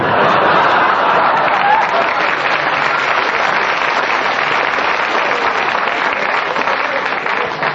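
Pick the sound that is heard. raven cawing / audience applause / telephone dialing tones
audience applause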